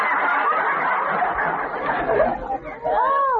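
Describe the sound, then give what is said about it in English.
A burst of busy, chattering vocal noise gives way to a sudden, tonal hiccup that sounds like a cuckoo call, a bright, swooping voiced note at the very end. “I always hiccup like a cuckoo!”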